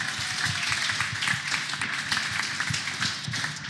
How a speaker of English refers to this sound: Once again, one more round of applause for everybody here.